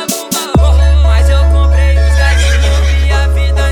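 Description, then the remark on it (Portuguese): A horse whinnies with a wavering, shrill cry over a loud, sustained bass drone and electronic music, following a couple of sharp hits at the start. “Eu passei foi de cavalo e ela nem me olhou.”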